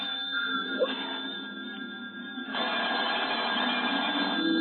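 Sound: telephone ringing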